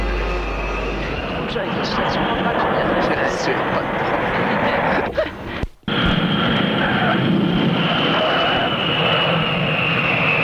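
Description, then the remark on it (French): A loud, steady roar of an airplane coming in to land, a dense rushing engine noise that fills the whole stretch, broken only by a brief cut partway through. “L'avion est en train d'atterrir.”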